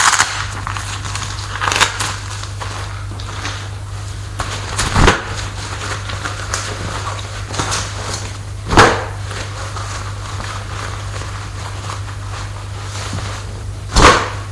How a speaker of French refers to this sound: Il va de suite à sa chambre pour défaire les bagages. Il ouvre ses bagages